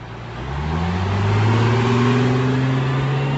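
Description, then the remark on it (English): A tour bus rumbles along Highway 76 in Branson, Missouri, in early spring, its deep engine drone rising steadily in pitch as it accelerates, with constant road noise and no voices. “For the next 8 months, the tour buses will roll up and down Branson's Highway 76 strip, a neon blur of motels, restaurants, and theaters.”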